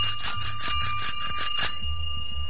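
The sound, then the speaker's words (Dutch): A bicycle bell, the most expensive model on offer, rings in a rapid, rattling trill of repeated strikes for over a second, then its bright metallic tone lingers and fades. Fairly loud, with no talking. “En dit is dan de bel van 1,75. Dat is de duurste.”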